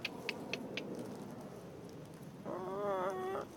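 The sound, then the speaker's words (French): A man's hen, kept at his caravan on a plot of land, lets out a short, wavering cluck near the end, moderately loud. Before it, a few faint, quick ticks sound over a quiet background. “Jean vit également en compagnie de sa poule.”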